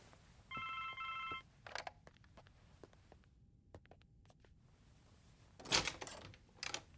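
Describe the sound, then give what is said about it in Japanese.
A telephone rings once in a short, clear trilling burst of about a second at the end of a business meeting, then scattered clicks, taps and a few louder knocks follow with no talking. “ああ、お気になさらず電話に出てください。”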